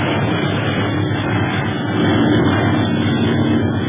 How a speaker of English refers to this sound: Got this plane has 12 motors, but hard to walk fly for two planes.